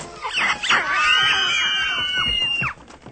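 A small monkey named Hanuman lets out a shrill, wavering screech, opening with a few sharp yelps before stretching into one long, sliding squeal. It is loud and alone for about two seconds.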